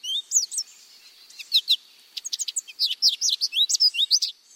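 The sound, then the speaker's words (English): A lively goldfinch song of rapid twittering chirps and bright warbled notes, delivered in quick bursts with brief pauses, clear and alone without any voices. “And the goldfinch isn't the only bird to make this surprising transition.”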